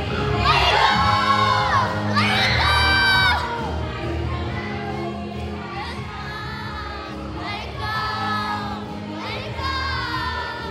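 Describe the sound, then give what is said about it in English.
A big group of children at a camp party with s'mores and a DJ shouts and cheers together, loud, with high-pitched yells and whoops rising in waves over a constant crowd roar for about eleven seconds. “All right, camp, we're supposed to make some noise!”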